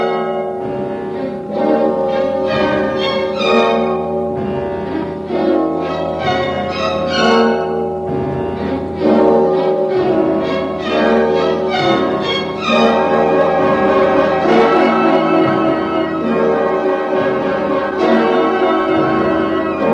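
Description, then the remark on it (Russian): Church bells peal loudly from a radio loudspeaker amid dense, hoarse music that plays continuously. The tolling and instruments blend into a rich, steady wall of sound with no voices. “И вслед за тем в радиорупоре грянули колокола и заиграла хриплая музыка.”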